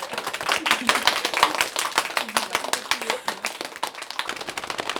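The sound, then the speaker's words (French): A theatre group claps hands, palm against palm, at the start of a session in a dense, continuous patter that imitates rainfall: many overlapping sharp slaps at a steady moderate loudness with no clear shared beat, and faint voices underneath. “Maintenant, on va commencer notre séance avec la pluie. Le main contre le main.”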